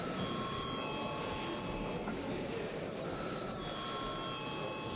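A continuous electric bell rings in a parliament before a vote on a bill in its second and final reading, steadily for the whole stretch, a loud buzzing metallic tone with high ringing overtones and no pauses. No one speaks over it.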